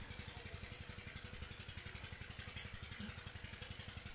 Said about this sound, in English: Whenever your mind goes to the sound of the water pump, bring it away this time from the water pump.